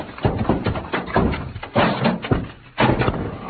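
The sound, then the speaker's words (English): Heavy packing cases, bumped by Pancho, topple over in a rapid, irregular run of loud, low thuds and crashes, about half a dozen impacts tumbling one after another with no voices; the cases hit Pancho, knock him out and pin Cisco's leg. “Santos, those cases hit Pancho and knocked him out.”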